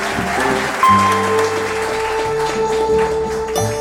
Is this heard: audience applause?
yes